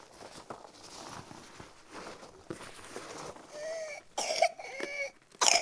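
coughing

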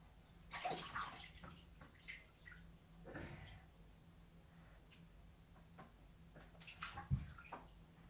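water sloshing

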